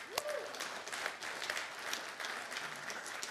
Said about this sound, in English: And as long as you're clapping, let's give it up for the pig this morning, too, all right?